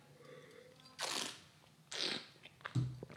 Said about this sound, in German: Ich bin sehr gespannt, was die Weine denn am Gaumen können. Spare ich euch den Einspieler mit dem Schlürfen, sondern trinke einfach hier jetzt vor dem Mikrofon.